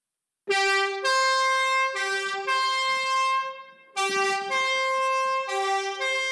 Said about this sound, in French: Voilà le camion des pompiers.